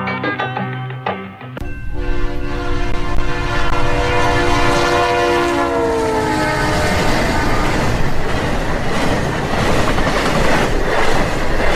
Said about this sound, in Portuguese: Longe em longe, uma locomotiva óleo diesel apita, desanimada, e vem furando as luzes na zona do cais.